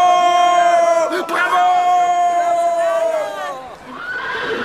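A racehorse, Pompadour, whinnies loudly after winning a race, a long quavering neigh that wavers for several seconds before dropping in pitch, followed by a brief rushing noise.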